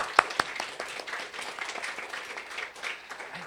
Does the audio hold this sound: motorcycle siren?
no